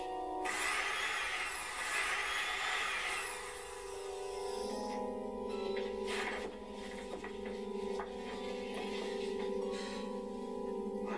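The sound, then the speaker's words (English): A drill bores a hole into a man's own head: a few seconds of harsh, grinding noise, then a steady, humming motor whine with occasional scraping, continuing without any speech. “He's giving him, drilling himself a hole in his head.”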